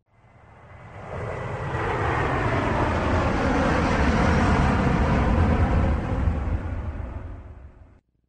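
A heavy, rumbling airplane engine roar swells up over the first two seconds, holds steady and loud, then eases off and cuts out near the end, with no voices, as a plane makes its takeoff roll down the runway and lifts off.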